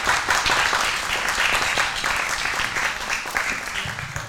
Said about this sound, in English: Come up, if you'd like. Yes, come up. Join us. Round of applause.